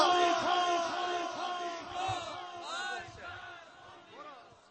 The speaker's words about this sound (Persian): فریاد بزن مرگ بر آمریکا.